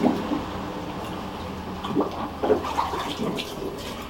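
Water pours steadily into a small white plastic container, a continuous splashing gurgle with a few sharper plops and sloshes, with no one talking.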